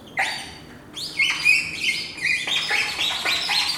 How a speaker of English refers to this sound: I like the bird.